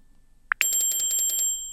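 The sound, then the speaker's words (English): A single short beep, then the 'ring' temperature alarm preset of a thermometer's app: a rapid, bell-like trilling that repeats steadily for about a second, clear with no voices. “Ring.”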